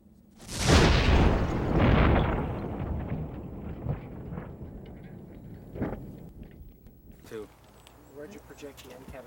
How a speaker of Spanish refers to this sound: Rápidamente se hace evidente lo destructivas que pueden ser estas pequeñas bombas de tubo. Esta explosión fue tan poderosa que parte de la caja de cartón perforó la puerta de acero del auto.